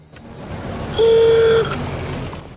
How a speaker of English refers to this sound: The car pulls away.